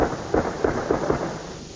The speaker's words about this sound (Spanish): se escuchan también algunos disparos de armas de fuego.